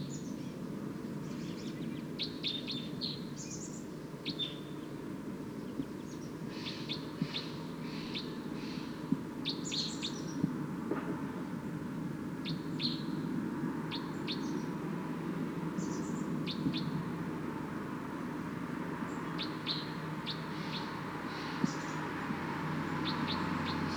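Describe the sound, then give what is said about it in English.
A wild bird calls loudly, along with decoys, repeatedly in quick bursts of high, chirping notes, returning every few seconds over a steady background hiss and a low droning hum. No one speaks. “Wild bird's calling loud now, as well as the decoys.”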